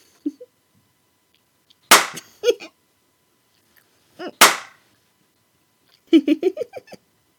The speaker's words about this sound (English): Ooh, you know, I think I'm going to give your thigh some slaps.